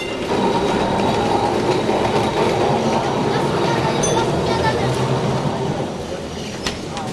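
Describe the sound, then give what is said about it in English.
Trams rumble and rattle steadily along bustling Dharmatala Street in Kolkata, their heavy mechanical drone filling the street, with faint voices and city bustle mixed underneath before it eases slightly at the end. “Once the communist leaders of Bengal commemorated Lenin's centenary for an entire week and decreed that bustling Dharmatala Street with its trundling trams and crumbling mansions would become Lenin Sharoni or Lenin Avenue.”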